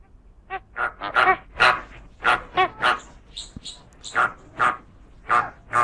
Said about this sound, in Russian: Так это фламинго? Да, это розовый фламинго.